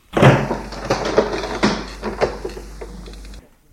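A man unlocks a cellar door with a key and pushes it open, so as not to damage the door: a run of metallic clicks, scrapes and rattles, then a creaking, shuffling movement before it cuts off abruptly. No one speaks.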